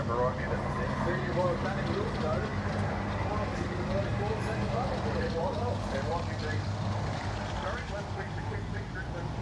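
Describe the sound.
A race car with a straight-through exhaust and no silencer does a burnout, its engine roaring steadily for several seconds, heard from behind a grandstand amid a noisy, crowded background with indistinct voices.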